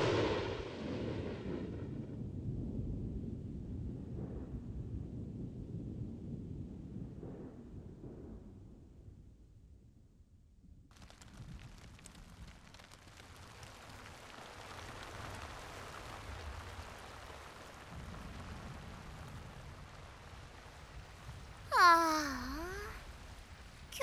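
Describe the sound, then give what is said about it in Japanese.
Steady, even hiss of rain falls outdoors at moderate level, preceded by deep rolling rumbles, with a brief shrill swooping sound cutting through near the end; no one speaks. “たくさんお洗濯したかったんだけど、一日雨なのかな。”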